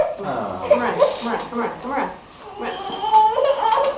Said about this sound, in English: Ooh, are we a little bit clingy today and whimpering?